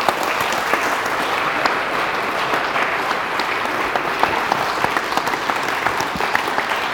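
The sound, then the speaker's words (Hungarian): Steady applause from an audience honoring a foundation's manager, a dense wash of many hands clapping at an even, sustained loudness for several seconds with no voices standing out. “Tapsoljuk meg”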